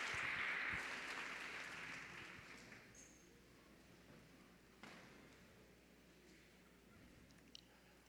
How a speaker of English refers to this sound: Put your hands together and give the Lord a hand clap of praise as you take your seat.